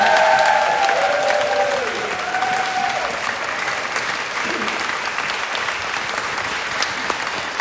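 crowd, concert audience applause

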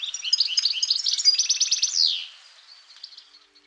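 bird, goldfinch song

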